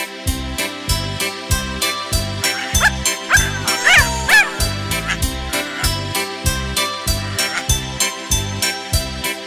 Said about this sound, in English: Shall we choose the dog? What can he do? He can bark, he can bark, he can guard your home.